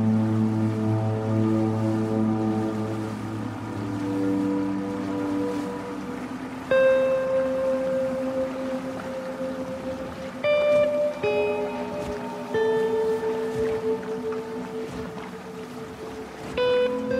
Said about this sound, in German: In einem kleinen Motorboot fuhren Lev und Abby über die überfluteten Straßen von Seattle hin zum Aquarium.